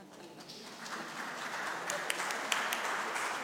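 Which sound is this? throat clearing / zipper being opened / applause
applause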